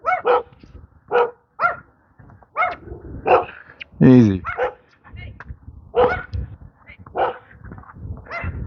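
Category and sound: animal, dogs barking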